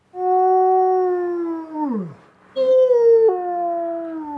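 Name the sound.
wolf howling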